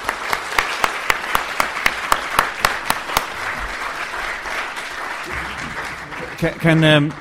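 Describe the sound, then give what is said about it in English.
Audience applause at a conference, thanking the speakers, with a few sharp, loud claps standing out near the start over a steady wash of clapping. A voice briefly speaks as it dies down. “So thank you, and a big hand of applause, I think.”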